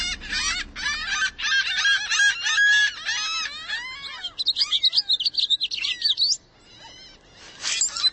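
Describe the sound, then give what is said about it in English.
A lively chorus of birds calling and chirping, with dense overlapping tweets and whistles, then a burst of rapid high trills, all continuous with no talking. “Not to mention, while driving a car, you can't just relax and tune in to the birds all around you.”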